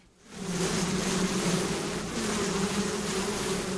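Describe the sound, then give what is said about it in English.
A dense, steady drone of many honeybees buzzing around an opened hive being checked, with a smoker in use, on a hot, overcast day with a stiff breeze. It rises quickly after a brief quiet start and holds at a loud, continuous hum with no voices. “Smoking the bees in their hive disrupts their communication with each other”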